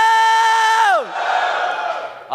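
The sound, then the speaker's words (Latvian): A church audience, urged to shout loudly, shouts together: a held, high-pitched yell swoops downward, then breaks into a broad, roaring crowd shout that carries on before trailing off. “Nu, tad skaļā bļaujiet.”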